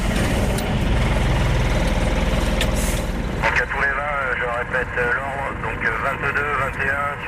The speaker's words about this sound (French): Au petit matin, le convoi s'engage sur la route nationale 16.